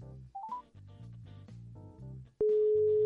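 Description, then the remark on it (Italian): A few quick rising beeps sound over background music, then a click and a loud, steady telephone ringing tone of an outgoing phone call that holds unbroken to the end. “Squilla.”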